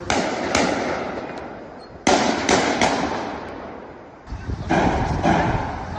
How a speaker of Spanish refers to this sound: Son sonidos de los balazos en el centro de Bruselas. Parece que es como la entrada, como si fuera un gran cajero automático, como la entrada a un banco. Ahí asesina a tiros, como digo, a dos aficionados con la camiseta de Suecia.